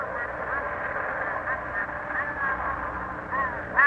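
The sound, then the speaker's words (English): Steady, muffled radio static on an open broadcast circuit, with thin, garbled ghost voices murmuring faintly underneath as signals from the Columbus expedition come in from the Western Ocean; a narrow crackling hiss holds level throughout before a brief louder burst at the very end. “It may be nothing but those strange patterns of static coming in from the Western Ocean.”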